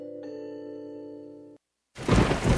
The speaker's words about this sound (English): It's pouring rain. It's real dark outside.